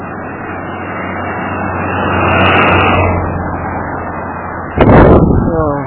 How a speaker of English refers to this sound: Anyway, you're starting to hear the traffic. It's getting close to 6:30 probably. Not past 6:30, I think. And life is turning on.